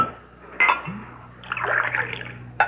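A glass clinks, then water pours steadily into it for about a second, fairly soft, ending with another light clink of glass over a faint low hum.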